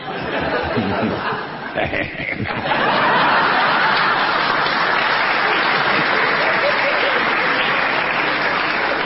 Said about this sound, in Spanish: No aplaudan, que para ustedes también va a haber.